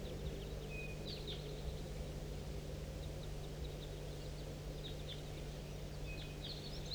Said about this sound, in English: And there's another big flock somewhere. Stop. Start recording a big flock in flight.